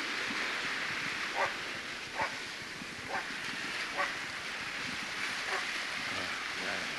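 A dog barks about six times at uneven intervals, the barks sounding muffled against a steady, rushing background of wind or water noise.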